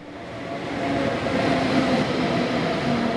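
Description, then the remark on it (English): A train rolls steadily along rail tracks, a continuous low rumble with faint tonal hum, swelling slightly in the first second and then holding even. “From the train, you used to know you were in Wolfsburg when you saw the dark smokestacks of the Volkswagen factory.”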